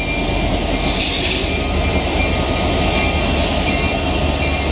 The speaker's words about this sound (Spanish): Al descender, se hace claramente visible la monstruosa construcción de barracones en el horizonte. A ella se dirige en una marcha tortuosa el tren, del que ahora surge una varada de lamentos insoportable, escalando inútilmente el cielo.